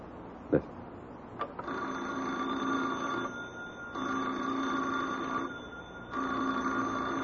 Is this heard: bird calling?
no